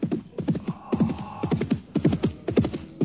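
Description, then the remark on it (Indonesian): Steady, rhythmic hoofbeats of a ridden horse approaching thud in quick clusters throughout, moderately loud, with a low rumbling undertone and no voices. “Aku mendengar derap kuda menuju kemari.”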